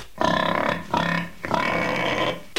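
A pig grunts three times in quick succession, loud, the last grunt drawn out longer than the first two, with no other sounds around it.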